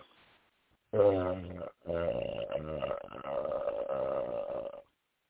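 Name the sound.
burping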